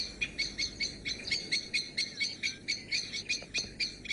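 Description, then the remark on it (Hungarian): A common blackbird's alarm call, given because a person came too close to where its mate sits on the nest: sharp, repeated chinking notes in a steady, rapid rhythm, clear over a quiet outdoor background. “Túlságosan közel kerültem ahhoz a helyhez, ahol ennek a fekete rigónak a párja ül a fészkén.”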